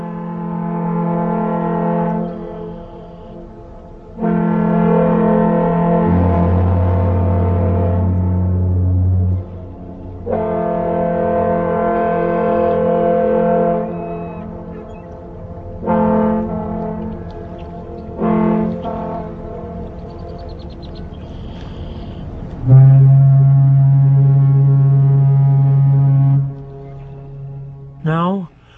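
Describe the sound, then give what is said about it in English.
A deep foghorn on Lake Michigan near Sheboygan, Wisconsin, in June 1963, sounds in long, loud, sustained blasts, overlapping with several higher-pitched boat whistles. The steady tones start, stop and layer into chords, with short pauses between blasts and no talking. “In June of 1963, the melodious sound of a foghorn harmonizes with boat whistles on Lake Michigan near Sheboygan, Wisconsin.”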